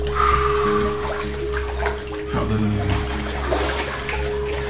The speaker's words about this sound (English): Yep. We got some water, y'all.